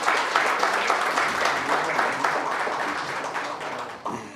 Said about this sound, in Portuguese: Uma salva de palmas para Quissamã, por favor.